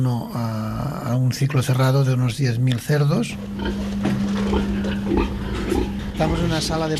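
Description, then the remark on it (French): Sows grunting and squealing in the farrowing room of a 1,100-sow breeding farm in Alcarràz, near Lleida, loud in quick bursts, then a steady hum from the room's ventilation system. A voice talks at times underneath. “Là, on est dans la salle de mise bas. Les truies ont le chauffage et un système de ventilation.”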